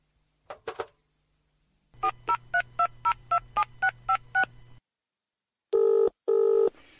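A telephone being dialed on an outside line: a brief clatter, then a quick, even run of about nine touch-tone beeps over a low humming line, followed by two long ringing tones.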